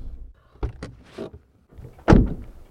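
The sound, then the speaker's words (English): A car door unlatches with a couple of sharp clicks and rattles, followed after a pause by a loud, solid thunk as it swings shut, then a brief rattle fading out, as people get out of the car at a rise in the middle of a pine forest in a national forest, reached by a dirt road. “We get out of the car at what looks like just a random rise in the middle of a pine forest.”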